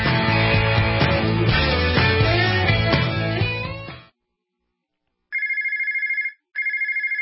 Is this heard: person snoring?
no